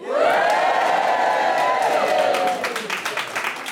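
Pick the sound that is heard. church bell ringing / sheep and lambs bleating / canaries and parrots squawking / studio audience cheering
studio audience cheering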